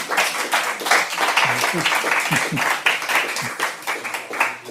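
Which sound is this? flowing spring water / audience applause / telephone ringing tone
audience applause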